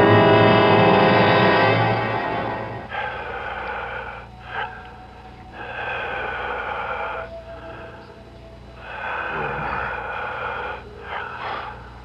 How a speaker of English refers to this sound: It sounds like the whole room is breathing. I can hear it breathing.